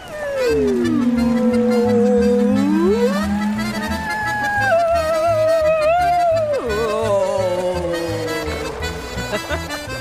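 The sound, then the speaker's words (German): Long, sliding whale moans rise and fall in pitch, fairly loud, over a steady rhythmic low thumping pulse that runs underneath throughout. “Hallo, Herr Wal. Schön, Sie zu sehen. Oh, wie bitte?”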